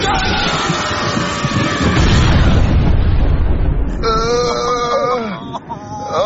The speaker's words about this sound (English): Guys, what happened? It's struck by lightning, you idiot.